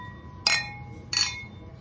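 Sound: beer glasses clinking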